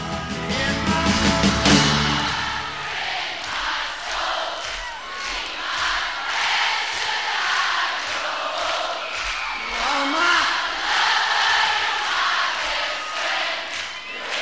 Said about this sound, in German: Da gibt es eine Live-Aufnahme, live, …, ein Live-Album, wo das Publikum beinahe mehr singt als er. Also eine Stimmung, eine Atmosphäre, die man auf kaum einem Live-Album besser hören kann als auf diesem.